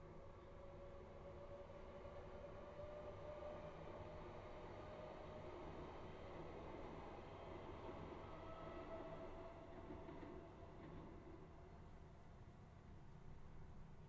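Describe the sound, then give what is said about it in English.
A train rumbles past outside, a steady low roar with faint metallic tones and rattling carried in through an open window at the front of a house, with no one speaking. “That was one such train passing.”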